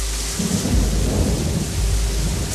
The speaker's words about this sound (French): Là, on a une descente du Nord-Hiver, là. En quelques minutes, la petite pluie va se transformer en averse diluvienne. Wow.